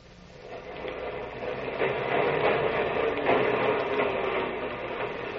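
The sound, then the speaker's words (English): The first elevated L train of the morning on Allen Street rattles along its tracks: a steady mechanical rumble and clatter builds and holds, loud and continuous with no voices. “Morning clatters with the first L train of Allen Street.”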